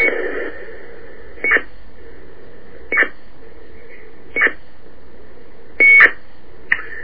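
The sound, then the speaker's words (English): A dial-up modem, heard on a phone call to a CoCot, gives a steady electronic tone that hums throughout, broken by short, sharp beeps about every one and a half seconds, with a longer burst near the end. No one speaks. “That's the modem.”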